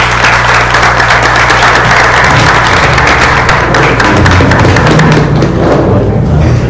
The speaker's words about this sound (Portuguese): Muito obrigado, uma salva de palmas, vereadores.